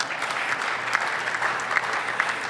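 A crowd claps steadily, a dense wash of many hands at moderate volume, with a few sharper claps standing out over the continuous applause.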